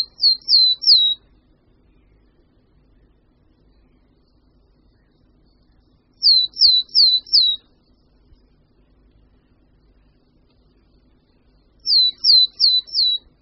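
Willow tit song of the so-called lowland form: three bursts of clear, high whistled notes, each burst three or four identical syllables that dip slightly in pitch, repeated about every six seconds over quiet background hum.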